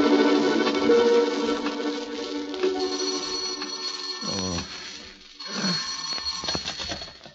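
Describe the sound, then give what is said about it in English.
A telephone in a warden's office rings in a steady, bright, jangling tone that carries on for several seconds, with a couple of swooping pitch slides partway through. No one speaks. “You'd better phone the warden to make sure, though, Governor.”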